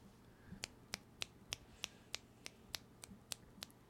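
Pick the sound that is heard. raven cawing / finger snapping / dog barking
finger snapping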